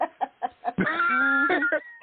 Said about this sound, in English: That blasted chicken. Yeah, I think that we got the hashtag F that chicken.